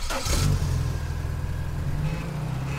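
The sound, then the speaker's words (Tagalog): A car engine revs up loudly, a deep steady rumble with a brief rising roar near the start, then settles into a sustained throaty idle. “Tulad ng mga kotse na bumubuo ng 30% ng aking mga alagad.”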